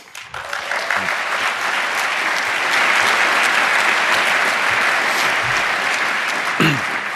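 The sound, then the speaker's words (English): A crowd bursts into loud, sustained applause, a dense wash of clapping that builds quickly and holds steady for several seconds, with a few whoops and shouts rising above it. “So please set the stage with a huge applause.”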